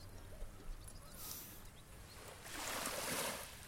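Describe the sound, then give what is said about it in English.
Sea waves wash in with a soft hiss, one small surge followed by a fuller rush of water lapping onto the shore, over a low steady background rumble. “No, don't take me in the sea.”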